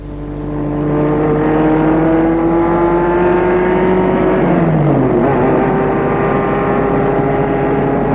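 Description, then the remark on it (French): A car engine hums steadily, then shifts gear partway through and its pitch climbs again as the vehicle pulls away, as a man takes his car to drive to a high school. No one speaks. “Il prend sa voiture.”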